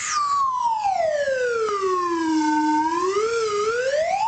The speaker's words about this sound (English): But what I can offer you is the weekend weather slide whistle.